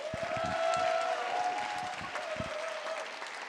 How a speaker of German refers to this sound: Dann haben wir Sven Plate. Ihr kennt ihn als Bugs Bunny, als Will Wheaton, als Rino Romano aus dem Super Mario Bros. Film. Ganz, ganz großen Applaus bitte.